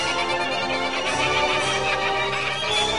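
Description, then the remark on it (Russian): Magpies chatter loudly and without pause, a harsh, rattling chorus of overlapping calls that fills the whole three seconds, with no voices. “Крыш, крыш, проклятые сороки!”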